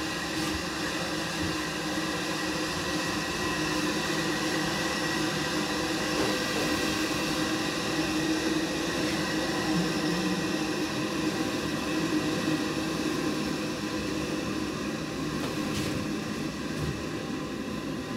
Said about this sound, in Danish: Ja, kaffen koger der. Godt, nu skal lytterne bare lige nyde det her. Vi skal være stille.